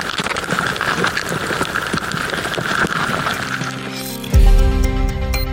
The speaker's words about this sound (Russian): Это муравейник. Постоянное шуршание, щелканье и стрекот. К примеру, так муравьи едят.